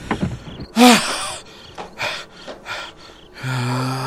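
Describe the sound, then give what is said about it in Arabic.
A car door being opened: a short sharp gasp, then several brief mechanical clicks and rustles, followed by a steady electronic tone that sets in and holds to the end. “علي أن أفتح باب سيارة.”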